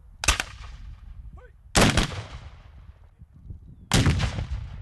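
cannon salute firing

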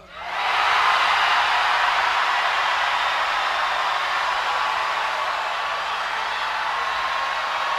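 audience screaming

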